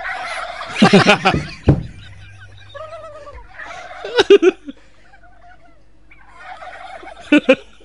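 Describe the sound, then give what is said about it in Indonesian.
Turkeys gobble in three loud, rapid, warbling bursts, clear, with quieter clucking and chatter filling the gaps between calls. “Ayam, ayam masuknya bukan burung. Oh, gitu ya. Ayam kalkun.”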